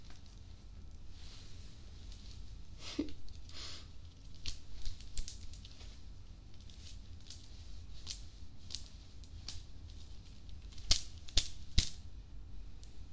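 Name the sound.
whip cracking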